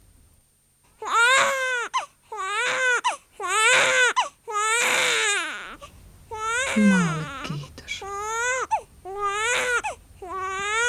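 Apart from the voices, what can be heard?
newborn baby crying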